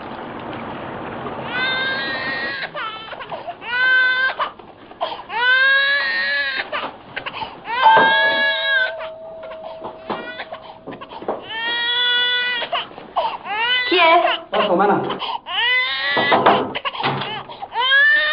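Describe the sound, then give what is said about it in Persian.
An infant wails loudly and continuously, in repeated rising and falling sobbing bursts with brief gasps between them, without letup. “بدش بدش تو بچه رو چی کار داری؟ بدش کنه تو شیر تو بخوره.”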